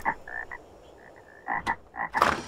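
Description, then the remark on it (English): A dense chorus of frogs croaking, with several overlapping calls in quick succession, some short and clipped, others drawn out and rising in a noisy burst near the end. “Wherever you put your foot down, you stepped on frogs.”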